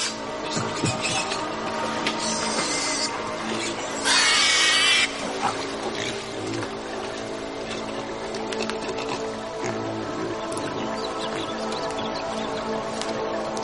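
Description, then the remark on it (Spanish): Pigs grunt and snuffle steadily against a dense, busy background, with a brief louder squeal-like burst partway through; no one speaks. “Mientras viajan a través de selvas desconocidas, los cerdos les permiten sobrevivir.”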